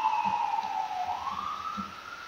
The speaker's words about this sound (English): And hold on, we got a siren going by here.